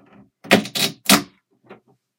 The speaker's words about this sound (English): So, somebody's knocking on my door. Who is it?